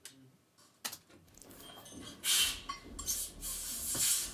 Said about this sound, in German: Jetzt höre ich eine Atmo, ein Zischen. I hear a lot of sounds. Zischen, Abstellen eines Gegenstandes.